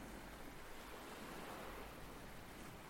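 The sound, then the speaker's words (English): A continuous wash of ocean surf rolls onto the shore at Deal, recorded on 23 May 2021, a broad steady roar with no distinct pauses between waves, moderately loud, with no voices present. “These waves you can hear were recorded at Deal on the 23rd of May 2021.”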